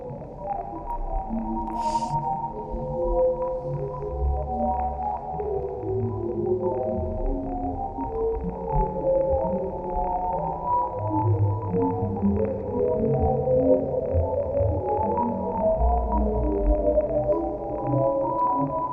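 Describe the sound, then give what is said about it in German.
A sonification of nebula images: steady, layered electronic tones with slowly shifting low and mid pitches, sustained drones and a brief high chirp early on, continuing evenly without any voices. “Und das Coole ist, das ging in den sozialen Medien jetzt auch sehr viel rum, ist, dass diese Bilder teilweise auch vertont wurden und die hören sich richtig schön an.”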